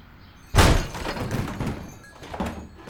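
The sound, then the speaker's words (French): A door bursts open with one loud, heavy crash as people charge it, followed by a few seconds of rumbling, scuffling movement and a softer thump near the end. No one speaks. “Oui, je crois que la porte était ouverte, en fait.”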